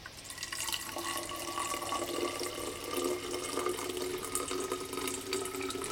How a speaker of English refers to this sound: Champagne cold as Valley Forge and with about 3 ponies of brandy under it. Oh, come, man. Pour a decent one.